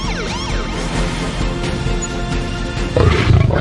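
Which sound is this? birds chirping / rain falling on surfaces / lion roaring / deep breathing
lion roaring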